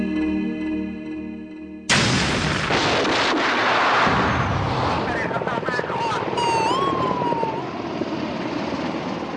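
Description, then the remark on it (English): A car bomb explosion in Najaf, Iraq, on August 29, 2003, that killed Ayatollah Hakim, recorded about 50 meters away during an interview: after a brief steady tonal passage, a sudden loud blast erupts into sustained roaring, crackling noise, with shouting voices and a rising, wailing siren in the chaotic aftermath. “I was nearly killed by a car bomb in Najaf, which killed Ayatollah Hakim.”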